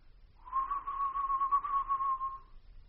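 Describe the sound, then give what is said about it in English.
At night, a soft, steady low whistle holds a single pitch for about two seconds, slightly wavering, then fades out against a quiet low rumble. “Then, a low whistle.”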